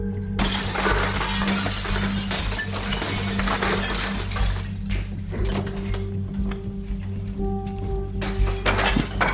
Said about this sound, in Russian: Разбивает окно этажом ниже.